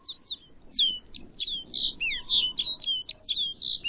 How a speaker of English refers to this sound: Now it's clear that rolling white cloud isn't snow at all, but a flock of snow buntings. These birds bring the barren landscape to life.